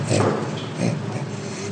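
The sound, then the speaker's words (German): Orangutan laughter: two breathy, grunting pulses about half a second apart, moderately loud, with a raspy panting texture and no talking. “Beim Orang-Utan funktioniert Lachen noch eher gleichförmig.”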